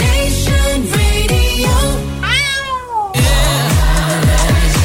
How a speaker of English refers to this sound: And yes, we have heard the cat.